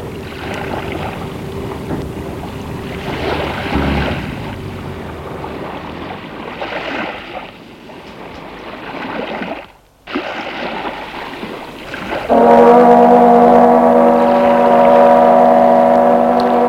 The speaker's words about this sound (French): La sirène du bateau, tout bouge, le bruit de la mer